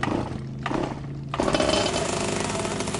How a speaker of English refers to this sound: He is driving a bicycle with a 25cc Golden Eagle engine.